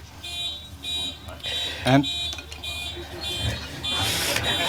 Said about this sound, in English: And that's the car.